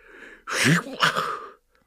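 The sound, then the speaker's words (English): A single loud sneeze: a sharp breathy burst followed by a second explosive release, ending abruptly in silence. “He stops, sneezes.”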